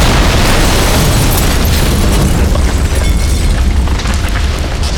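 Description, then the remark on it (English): A loud explosion blast whose concussion rolls back into a building: a heavy, sustained roar with deep rumbling low end and crackling noise throughout, holding steady for about five seconds. No one speaks. “He could feel the concussion of the blast rolling back into the building and over him.”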